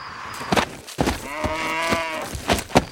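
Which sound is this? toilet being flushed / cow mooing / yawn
cow mooing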